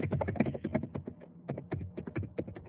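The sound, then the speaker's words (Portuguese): Rapid, irregular typing on a computer keyboard: a dense run of light clicks and taps, continuing steadily for a few seconds with brief pauses between bursts. “Você está digitando, falando comigo?”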